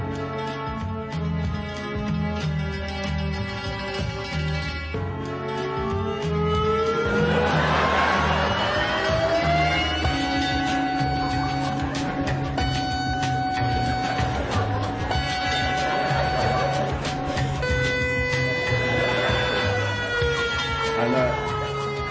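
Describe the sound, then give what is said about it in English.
A new ambient trip-hop track mixing sounds of a town with trip-hop, with layered sirens: slow rising and falling wails glide over sustained droning tones and a steady low pulse, all at an even, moderately loud level. “Ambient siren trip hop.”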